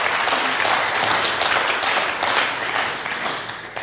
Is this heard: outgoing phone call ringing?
no